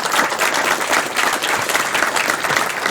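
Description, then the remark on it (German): Sustained audience applause at the Chaos Communication Congress for its volunteer angels: a dense, steady wash of many hands clapping at once with no individual claps standing out, holding at a fairly even loudness throughout with no voices over it. “Ein Applaus für die Engel vom Chaos Communication Kongress, bitte.”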